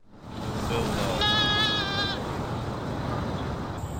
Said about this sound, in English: Those were goats. 58 of them spent a week at the cemetery to clean up invasive species, poison ivy, kudzu, English ivy that was killing some trees.